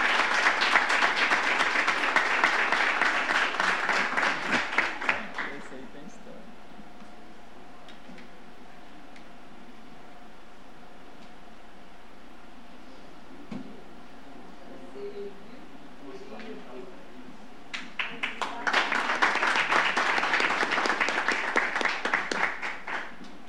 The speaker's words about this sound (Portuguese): Aplausos.